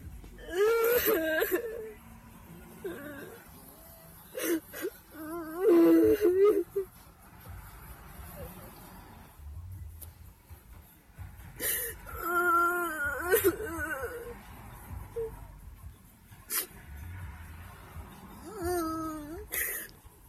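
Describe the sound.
A teenage girl sobs and wails in uneven, high-pitched bursts with shaky breaths between them, loud at times and trailing into quieter whimpers, with murmured voices in the background.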